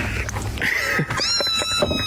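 Six cats meowing in a quick run of short, high, wavering mews that rise and fall in pitch, over a steady background noise.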